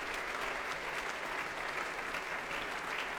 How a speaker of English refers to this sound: All warmly applauded by the audience here.